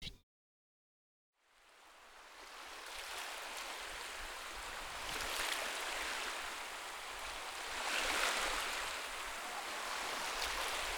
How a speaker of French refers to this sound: Bruit seul des vagues, un sentiment de flottement, tous les jours l'eau est différente.